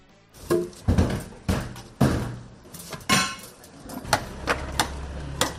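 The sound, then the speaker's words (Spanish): The first heavy wooden posts and planks of the Pamplona bull-run (encierro) fencing being installed in Pamplona on a rainy morning: a series of sharp knocks and hollow thuds, some like hammer blows, arriving at an irregular pace over a low steady rumble. “Es la colocación de los primeros postes y tablones del encierro de Pamplona, ese entramado de miles de piezas de madera que conforma el recorrido del encierro desde los corralillos del gas en la Rochapea hasta que finaliza en la Plaza de Toros.”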